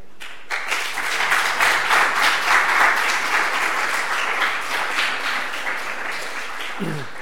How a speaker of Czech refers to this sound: Dobře, příště prosím, můžeme tleskat, ale nepískejme, to už je skoro moc.